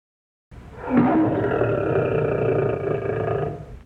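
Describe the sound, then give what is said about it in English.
A lion lets out one long, loud roar that starts abruptly, swells, and holds for about three seconds with a rough, rumbling tone before fading out. No one speaks. “I'm afraid of lions.”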